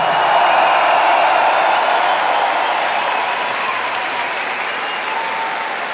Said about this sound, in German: Ein Applaus für die Leute, die hier seit Tagen schuften und dieses Ding aufbauen.